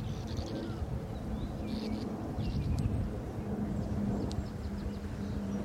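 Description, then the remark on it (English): A steady, low rumbling drone of an airplane passing overhead, with faint bird chirps flickering above it. “Here's the airplane.”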